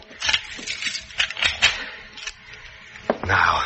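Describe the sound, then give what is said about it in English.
A door being locked with keys: a series of sharp clicks and light rattles as the keys work the lock, then a louder clunk and brief shuffling noise at the end. “I will lock it.”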